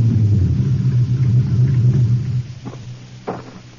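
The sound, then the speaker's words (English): A car engine rumbles low and steady as it drives up behind Lieutenant Ryan's car on a deserted road near the airport on Long Island just after dark, then winds down as it comes to a stop, followed by two short clunks. No one speaks. “It was just after dark when I drove up behind Lieutenant Ryan's car.”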